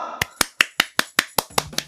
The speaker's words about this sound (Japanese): まあそれは拍手しますけど、こちらもしますけども